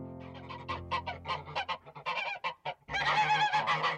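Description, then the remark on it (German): Geese cackle and honk in a rapid, noisy series, building into a louder, overlapping burst of chatter toward the end. “Schnatter, schnatter!”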